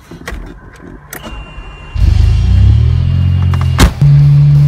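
After a couple of quiet clicks and knocks, a 1982 DeLorean car engine turns over and settles into a steady, loud low rumble that keeps running to the end, with no talking.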